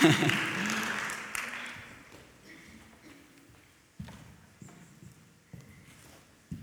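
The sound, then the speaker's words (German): A burst of audience applause, dense and fairly loud at first, quickly thinning out over a couple of seconds, followed by a few scattered claps and soft thumps in near quiet. “Danke vielmals, wir geben doch Ihnen einen herzlichen Applaus, so für die Lücke zu füllen.”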